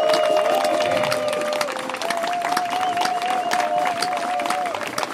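A crowd applauds steadily, dense clapping filling the whole stretch at an even, loud level, with a sustained tone and a few cheers woven through.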